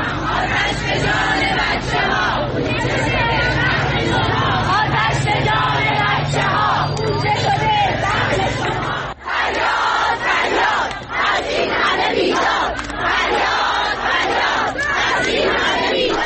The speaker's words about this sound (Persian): فرهنگیان معترض همچنین در شعارهایشان از جمله به آتش سوزی در دبستانی در زاهدان نیز اشاره کردند.